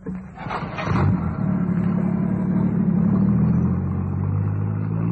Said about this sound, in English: Angus accelerated and turned the car towards the coast. He drove fast.